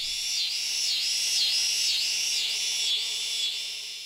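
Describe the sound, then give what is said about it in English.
A scissors grinder cicada, a common species in Missouri, calls steadily on its own: a loud, high-pitched buzzing drone that rises and falls in a regular rasping pulse about twice a second. “Another common species you may hear is the scissors grinder cicada.”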